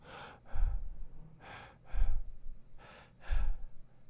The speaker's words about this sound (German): Dass man dich immer wieder leise atmen hört.